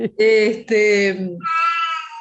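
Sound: cat meowing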